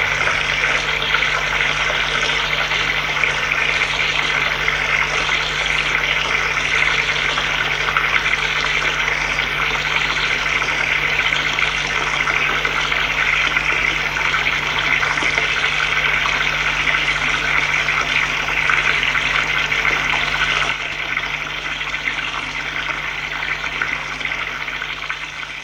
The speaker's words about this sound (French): Il se déshabille. Se douche.